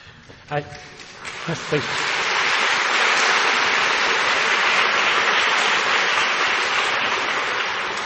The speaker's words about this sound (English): And I'd now like to welcome Dr. Bernard Lapointe to thank tonight's guest lecturer formally, and save some more of your applause.